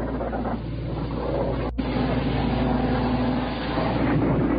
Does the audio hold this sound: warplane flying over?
yes